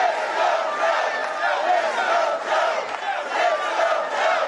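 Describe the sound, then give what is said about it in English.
A crowd of nearly 2,000 people at the first major rally of the Biden-Harris campaign chants "Let's go, Joe" in unison, many voices rising and falling in a steady rhythmic beat, loud and continuous throughout with no pauses. “Those in attendance appeared to be excited for Biden's candidacy with chance of four more years, and "Let's go, Joe" shouted in the room.”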